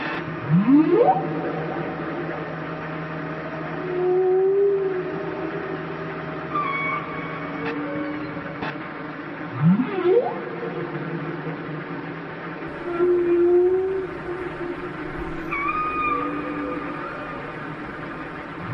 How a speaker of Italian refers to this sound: Buongiorno a tutti, mi dispiace parlare sopra le balene e interrompere il loro dialogo